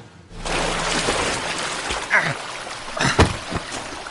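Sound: river water splashing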